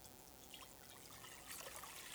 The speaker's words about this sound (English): And then Jesus pours a basin.